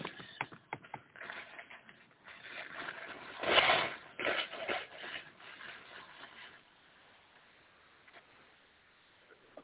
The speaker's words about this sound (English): That's absolutely rude, but totally necessary to blow my nose.